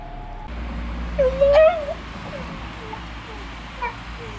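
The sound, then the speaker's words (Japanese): A dog named Toichiro lets out one drawn-out, whining bark that rises in pitch, followed by a few faint, short yips against a low background hum. “トイチロ君がおわんわん言ってました。”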